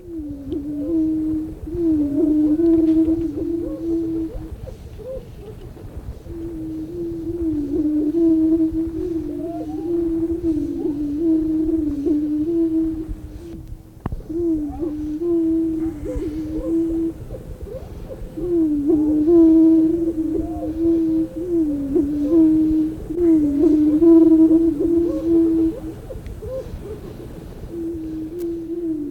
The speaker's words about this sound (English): Can we hear the prairie chickens? Yes. If you listen real carefully, you can hear the booming. Okay, let's hear the booming of the prairie chickens.